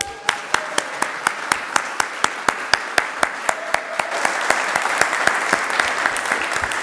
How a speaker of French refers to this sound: Je vous demande un tonnerre d'applaudissements pour Muriel Burst au piano.